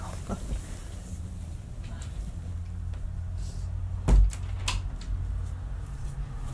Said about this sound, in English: You know, I'm gonna lock my door just in case.